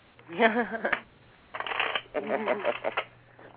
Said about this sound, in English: I'm going to shuffle my cards. We want good stuff.